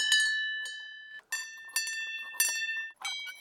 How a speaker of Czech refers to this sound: Na dohled od krásné vyhlídky je řada zvoniček. Každá je jiná. To má představovat zvuk a hudbu, což je zastavení věnované Karlu Horkému, rodákovi ze Štěměch, který byl významným skladatelem. Můžu si zazvonit? Ano.